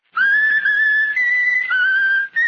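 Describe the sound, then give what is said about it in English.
A bird named Raffles whistles the patriotic tune "My Country, 'Tis of Thee" slowly, holding long, clear, pure notes that step gently in pitch, with one brief pause near the end and no talking. “Now whistle my country tis of thee, Raffles.”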